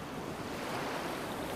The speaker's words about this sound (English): The waves are steady and soothing.